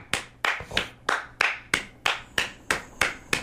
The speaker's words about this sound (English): You think I'm clapping?